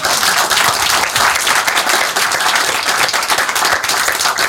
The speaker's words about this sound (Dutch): Ah, mag ik een applaus voor